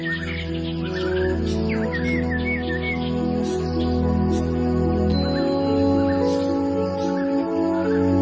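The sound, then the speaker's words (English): Several tropical rainforest birds chirp and whistle in short, scattered calls over a dense, steady low drone of forest ambience, the calls fairly faint and mixed into the background. “Tropical rainforests are home to many kinds of colourful birds.”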